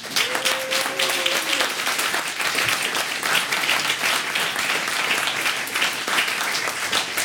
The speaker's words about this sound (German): Und ich finde nochmal einen großen Applaus für das Organisationsteam, oder?